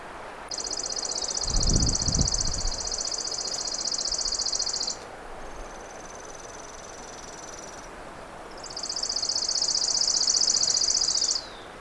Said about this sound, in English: Chipping sparrows are actually fairly common. More common sometimes around residential yards. But this is a chipping sparrow up in the woods.